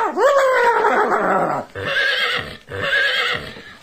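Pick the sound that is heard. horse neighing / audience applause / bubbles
horse neighing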